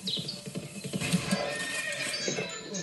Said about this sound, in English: Crazy horses.